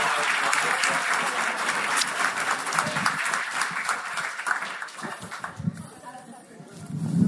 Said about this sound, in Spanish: Un aplauso y no sean envidiosos.